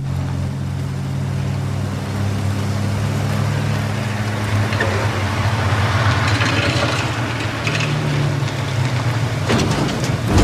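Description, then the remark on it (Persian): A steady car engine drone fills the whole stretch, low and continuous, as the car drives along, with rattling and road noise building in the middle and a bump near the end. “ای خدا، نکنه چرخای ماشین مربعیه.”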